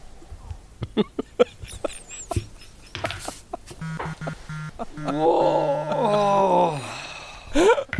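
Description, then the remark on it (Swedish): A few sharp clicks and taps, then a loud, drawn-out theatrical moan, portrayed as Hans Niemann sitting there moaning, wavering in pitch for several seconds before a final rising groan. “Sitter Hans Niemann där och bara stönar.”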